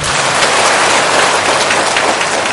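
A loud, steady wash of clapping from a crowd, dense and continuous with no break, carrying on evenly for a few seconds with no voices heard over it.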